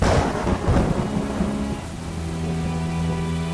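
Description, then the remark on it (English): A thunderstorm: a deep, loud rumble of thunder rolls through the first couple of seconds over steady rain, then settles into a sustained low drone with rain continuing. “The podcast that's battening down the hatches and prepping for the storm.”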